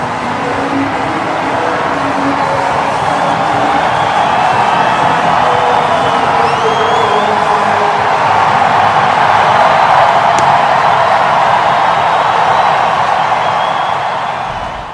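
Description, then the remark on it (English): A sold-out crowd at Petco Park in San Diego roars and cheers continuously for about fifteen seconds as Juan Soto runs out to right field for his introduction, a dense, steady wall of noise with faint whistles and shouts rising out of it, staying loud throughout before easing slightly at the end. “This is when Juan Soto ran out to right field and got greeted by the sold-out electric Petco Park crowd.”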